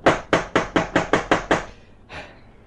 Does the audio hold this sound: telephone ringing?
no